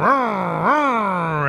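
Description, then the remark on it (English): A voice imitates a car engine with a low, buzzing hum that revs upward twice in quick swells, then holds a steady drone, loud and sustained with no other talk. “I drive a Tesla, so it doesn't make that sound.”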